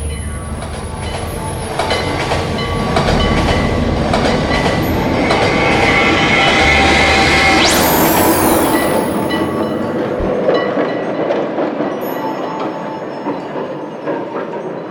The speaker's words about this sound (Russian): Трамвай только что пролетел. Мы его видели. Во всяком случае, я.